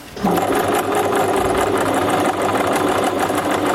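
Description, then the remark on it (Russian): A donated sewing machine runs steadily, a loud, continuous mechanical whir with a rapid stitching rattle that kicks in after a brief moment of quiet. No one speaks. “Машинку швейную я сделала здесь запрос в соццентре, чтобы помогли мне, у кого, может быть, стоит просто так без дела, чтобы дали попользоваться.”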